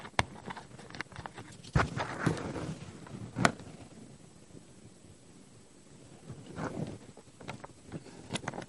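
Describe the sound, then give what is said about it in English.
Someone pauses a Bible reading to sip water: scattered soft clicks and knocks, a few sharper taps like a glass being handled, and faint slurping in between, with no talking. “Excuse me, I have another sip of water.”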